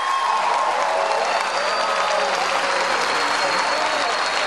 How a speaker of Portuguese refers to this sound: Uma salva de palmas ao presidente Lula.